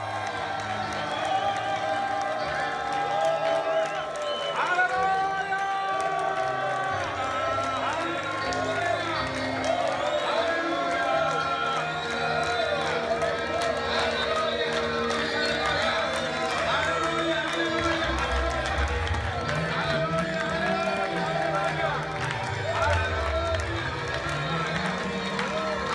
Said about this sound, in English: Okay, it seems like every year I need to show you how is the African shouting praise the Lord. Can you show them how is those African shouting praise the Lord?